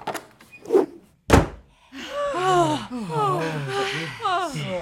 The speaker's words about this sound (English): open the front door!